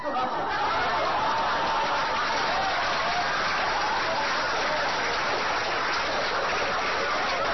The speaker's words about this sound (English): Did you hear how long that applause went on?